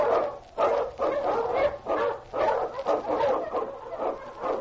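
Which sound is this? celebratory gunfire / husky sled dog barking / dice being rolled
husky sled dog barking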